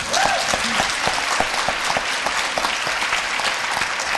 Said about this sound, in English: There's no better talent than what we have homegrown right here in Massachusetts. So let's give a cheer for that.